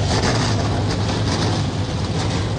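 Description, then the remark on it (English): A dense, loud roar of 38 NASCAR Xfinity Series race car engines starting up together on the pit lane at Talladega Superspeedway for the United Rentals 250, a steady deep rumble with no pauses and no voices, filling the whole moment. “The sound we've been waiting for, the NASCAR Xfinity Series machines, 38 strong, come to life on the pit lane soon.”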